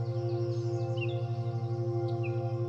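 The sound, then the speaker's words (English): A few soft, brief bird chirps sound faintly over a loud, steady low humming drone that continues throughout. “You hear birds gently chirping around you.”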